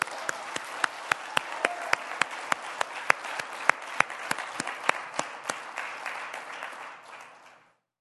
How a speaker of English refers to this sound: And I'd like to just give them a little bit of a round of applause.